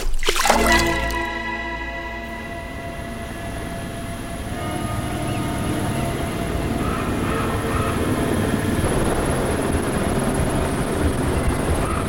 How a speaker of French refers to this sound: Le 27 février 2016. L'hélicoptère s'arrache du sol dans un sifflement de turbine.